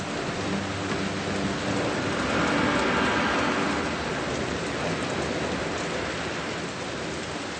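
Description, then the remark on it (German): A cloudburst: heavy rain pours down in a dense, steady roar, swelling slightly louder partway through with a low rumble underneath, then holding constant. No one speaks. “Bald kann die Wolke die dicken Tropfen nicht mehr halten. Es gibt einen Wolkenbruch.”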